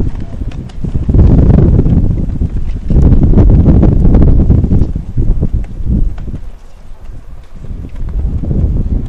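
Strong wind gusts of around 25 miles an hour batter the microphone at a baseball game in loud, low rumbling bursts that surge and fade, dipping briefly before rising again.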